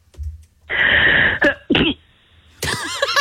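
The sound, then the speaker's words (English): A stifled, muffled sneeze from a caller on line two of a phone-in comes through a band-limited phone line: a breathy intake followed by short suppressed bursts, then a brighter wheezy exhale at the end. “I like them sneezes because they sound like they've got a silencer on.”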